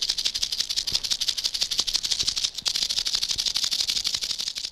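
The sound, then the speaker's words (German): A rattlesnake shakes its tail in a loud, continuous dry buzz, a rapid high-pitched rattle that barely pauses once midway before resuming at full intensity, with no voices. “Es gibt auch Klapperschlangen, die können mit ihrem Schwanz hinten klappern.”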